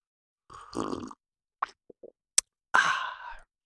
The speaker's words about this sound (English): And I'm going to pause here for a dramatic sipping of coffee.